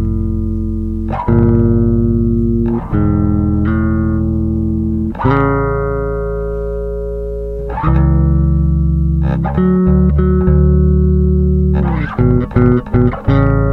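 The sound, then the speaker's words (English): A distorted electric guitar plays a series of sustained two-note tenth intervals at the fifth fret, A with C, with a deep, full low end, each one ringing for a second or more before changing, ending in a few quicker stabs. “Play a tenth, so you have the A with sure. the C. Yeah, so you're getting that low end.”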